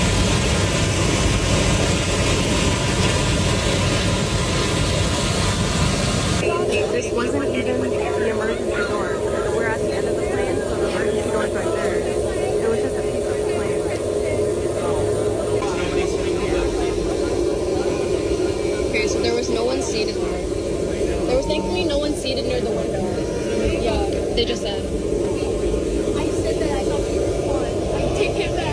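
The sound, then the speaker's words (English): Loud, steady aircraft cabin roar in eyewitness footage from inside a plane in flight fills the whole recording, with indistinct voices and commotion layered over it; the tone shifts slightly a few seconds in but the engine drone never lets up. “And this is eyewitness footage from inside the plane.”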